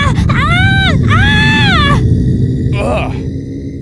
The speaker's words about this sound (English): It's that creepy groaning again! Something's happening!